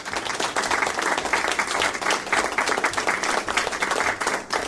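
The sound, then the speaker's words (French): A crowd applauds steadily, a dense wash of many hands clapping at once, sustained across the whole few seconds with no voices. “Ah ouais, vous pouvez applaudir.”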